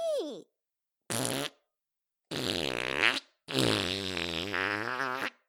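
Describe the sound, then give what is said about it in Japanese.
A loud series of farts: a short squeaky one, a brief blast, then two long, rumbling, sputtering farts, each separated by a moment of silence, with no talking. “ああ、おっきいおなら、町中に響いちゃったかも。”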